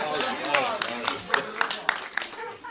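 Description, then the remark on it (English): Scattered, sparse handclaps from an audience, a handful of sharp claps at uneven intervals, fairly quiet, mixed in with a voice talking over them. “No, I wasn't looking for an applause, but okay.”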